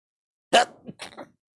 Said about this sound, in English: Sorry, I have to sneeze. I'll be back in 10 seconds.